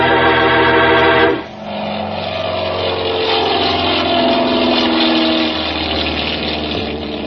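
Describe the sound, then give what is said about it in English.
A loud, steady engine drone with strong low harmonics breaks off briefly, then swells back into a rising, throbbing roar as a propeller airplane's motor is gunned for takeoff from an airfield. No voices. “Then Ayers gunned the motor, and we were taking off.”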